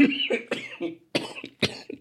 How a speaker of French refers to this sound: Ah oui, et je suis encore un peu malade, donc si je tousse, c'est normal, vous serez prévenus.